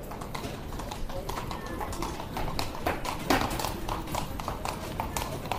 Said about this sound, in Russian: Сейчас проедут лошади.